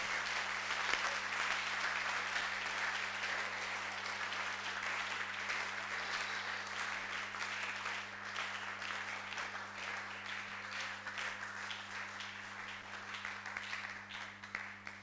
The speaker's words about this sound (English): Can you clap for the Lord?